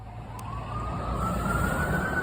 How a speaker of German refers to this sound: Ja, egal wo du bist in New York, du hast eigentlich fast immer so eine Art Grundrauschen an Verkehrsgeräuschen und irgendwo in der Ferne hörst du auch fast immer genau diese Sirenen. Die gehören zu der FDNY Ambulance.